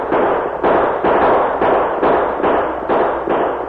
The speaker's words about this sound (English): With his reins wrapped around the saddle horn, Roosevelt spurred his horse, drew both guns, and opened fire.